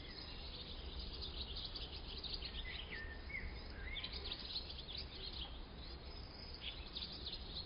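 Birds softly chirp and pipe in short, scattered whistles over the steady, drowsy hum of bees among flowers, with no voices, in a sun-warmed place in summer. The whole outdoor scene is faint.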